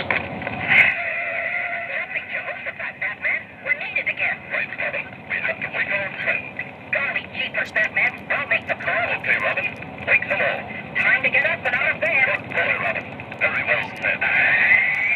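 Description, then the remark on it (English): A talking battery-powered alarm clock plays a tinny, thin-sounding voice through its small speaker, steady and continuous throughout, with the garbled words hard to make out. “Same alarm clock?”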